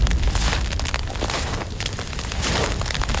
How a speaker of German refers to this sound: Grell schlagen die Flammen in den Nachthimmel von Mato Grosso.